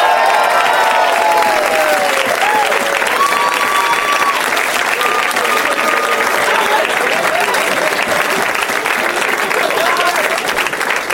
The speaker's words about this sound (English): They're having so much fun backstage together. Or they're just trying to milk the applause.